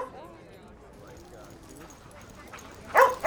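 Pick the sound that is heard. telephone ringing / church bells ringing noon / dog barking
dog barking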